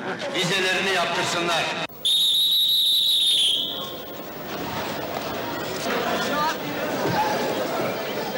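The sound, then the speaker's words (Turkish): Busy ambience at platform 11 of a train station, where workers leave by evening train for Germany: a dense crowd murmurs and chatters throughout, cut by one long, piercing whistle near the start before the hubbub carries on. “11. Peron.”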